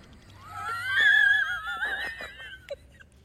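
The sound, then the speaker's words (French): A voice imitates snoring with a wheezy, whistling, wavering tone and a rough snort in the middle, fairly loud, lasting a few seconds, ending with a short catch of breath. “Arrête de ronfler.”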